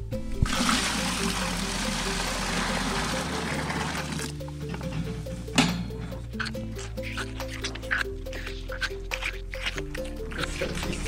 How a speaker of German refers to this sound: So, jetzt mischen wir also heißes Wasser mit der Kälbermilch zusammen und das geben wir den jetzt in den Milchbar rein.